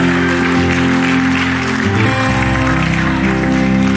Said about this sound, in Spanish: ¿Sabe por qué usted y yo aplaudimos y hacemos algo diferente?